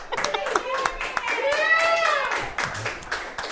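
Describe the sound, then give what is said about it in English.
Scattered, uneven clapping from a small audience applauding a musician's performance, with rising and falling voices whooping and cheering over the claps for a few seconds. “Why did you have to say nobody clapped into the mic?”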